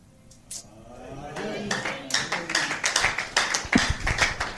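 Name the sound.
hand clapping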